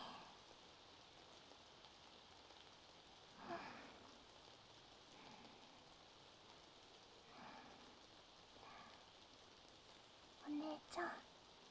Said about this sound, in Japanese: 雨、しばらく止まないといいね。なんて。